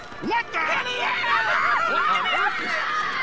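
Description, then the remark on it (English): A crowd of overlapping voices shrieks and yells at once, rising and falling pitched cries layered into a dense, continuous din, as people scream on amusement park rides. “Listen to everybody scream. These rides must be scarier than I thought.”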